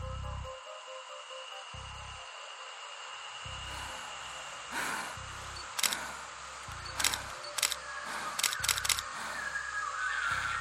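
A camera shutter clicks several times in irregular bursts at night, around 01:30 on 8 April, in pitch darkness, sharp mechanical snaps over a steady low hum and faint static, with no voices.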